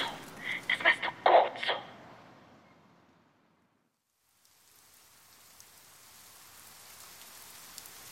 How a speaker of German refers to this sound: Regnet es? Es regnet.